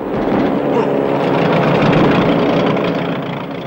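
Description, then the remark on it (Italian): A loud, steady aircraft engine drones throughout, a rough, rumbling roar heavy in the low end, continuous for the whole few seconds with no pauses, from a battered plane with hydraulic system trouble flying from Macapá to Santarém. “Qua si accorge che l'aereo è veramente scassato.”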